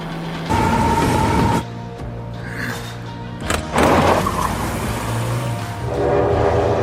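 getaway car speeding off

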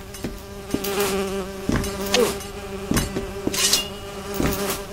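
wasps buzzing

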